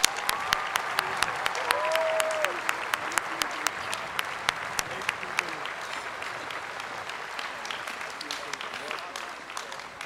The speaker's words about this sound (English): Let's give another round of applause for Bill Nye.